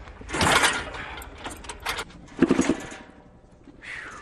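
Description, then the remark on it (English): Mechanical clunks and rattling churns as a raised-up motorcycle with a high-compression engine is kickstarted in several quick attempts, giving full rolls on the kickstarter, the engine briefly coughing without catching, then a faint sliding rattle at the end. “so we cut the bike off and raised it up so we could get a full roll on the Kickstarter, and that seems to do it with this high compression engine.”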